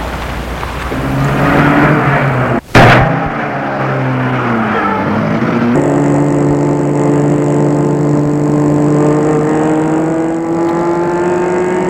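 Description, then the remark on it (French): A car engine turns over with a sharp click, then revs and settles into a steady, rising drone as the vehicle pulls away and keeps driving, loud, with no voices. “Vite, François met la voiture en route.”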